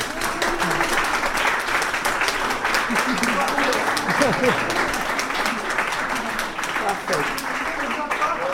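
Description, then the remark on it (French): An audience applauds steadily for several seconds after the SAD 2016 prize is announced, a dense, even wash of many hands clapping at a constant loudness, with faint murmured voices mixed underneath. “qui ne peut pas entendre vos applaudissements, mais qu'il faut quand même applaudir.”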